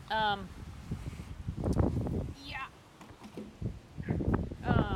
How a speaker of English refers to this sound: It's really windy out here, and I goofed.